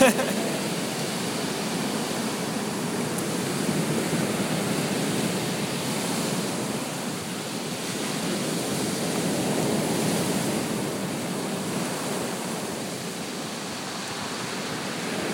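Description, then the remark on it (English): Steady ocean surf rolls and hisses, with waves washing up the shore in slow, broad surges over a constant roar of water, no voices present. “Wondering when the sea is going to make its next push beyond this line.”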